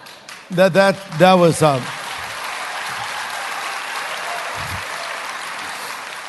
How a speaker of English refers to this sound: I would call that a smattering of applause, actually. It's not a wholehearted commitment.